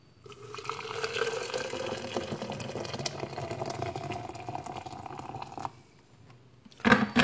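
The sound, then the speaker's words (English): Hot water pours steadily onto coffee grounds in Perth for about five seconds, a continuous splashing trickle, then stops; a brief louder clatter follows near the end. “Let's pour the hot water on the ground, coffee.”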